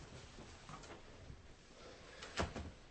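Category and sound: household object, door being closed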